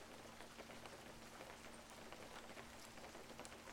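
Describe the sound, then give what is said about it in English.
Steady rain falls continuously, a dense patter of drops hitting a window with a soft, even hiss and a low constant hum underneath. No voices. “I love to fuck when it's raining.”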